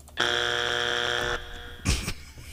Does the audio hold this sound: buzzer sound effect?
yes